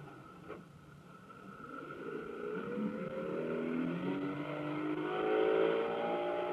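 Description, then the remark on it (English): A Mercury outboard motor engine revs on the water at the Lake X, Florida marine proving ground, its droning pitch climbing steadily and holding loud for several seconds, with no voices present. “Here's where we test Mercury outboard motors.”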